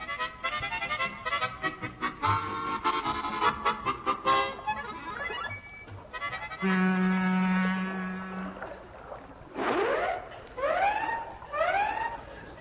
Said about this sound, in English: Look, every time you blast off our siren, sir, those Batani landers in Popperdam toot back at us, sir.